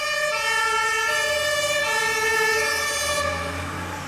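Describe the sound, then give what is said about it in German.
A fire engine siren wails loudly and continuously for about four seconds, a steady, rich, buzzing tone that rises slightly in pitch midway, with low vehicle rumble beneath and no voices. “Die Feuerwehr. Da brennt's irgendwo.”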